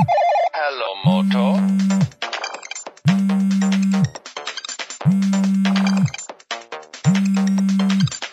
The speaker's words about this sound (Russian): Все началось с того, что посреди ночи у меня зазвонил телефон.